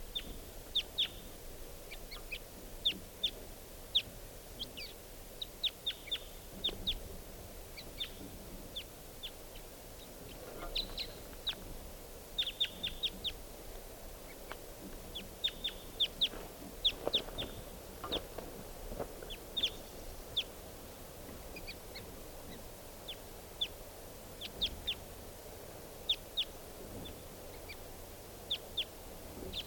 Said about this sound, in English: One of the birds is sitting down in a treetop by itself. Step. Here's that lone wild bird.